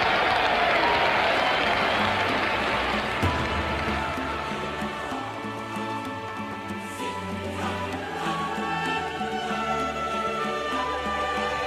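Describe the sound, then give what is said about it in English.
A large crowd cheers and applauds loudly and steadily for about twelve seconds, a dense roar of clapping with sustained, pitched voices rising through it in the later half. “when this crowd sees him, just take a listen.”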